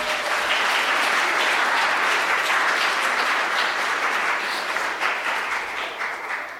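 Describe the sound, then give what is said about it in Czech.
Steady applause from a group for the children who built the most sets, dense and continuous for several seconds with many overlapping claps, holding strong before easing slightly toward the end. “Tak potlesk pro ně.”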